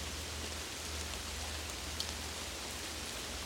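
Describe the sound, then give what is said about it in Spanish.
Steady rain falls in a dense, even hiss with a low rumble underneath, one brief brighter drop standing out near the middle; no voices. “Empiezas a correr bajo la lluvia, disfrutas la frescura del agua y brincas entre los charcos.”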